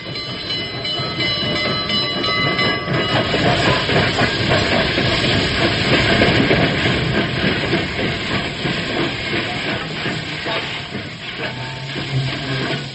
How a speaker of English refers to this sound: Don't be impatient, old-timer. The train just pulled in.